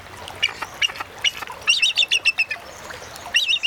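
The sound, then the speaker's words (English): Bald eagle, the national symbol of the United States, calls: high, thin piping chirps in quick bursts, with a rapid stuttering run of notes in the middle and another near the end, clear with no voices. “we leave you this week with the calls of our national symbol.”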